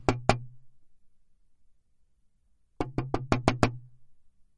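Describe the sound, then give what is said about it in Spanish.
Two sharp knocks on the wooden door of a house, a pause of about two seconds, then a quicker burst of five knocks, each with a hollow, resonant thud. Fairly loud, with no voices. “Alicia se acercó tímidamente y llamó a la puerta.”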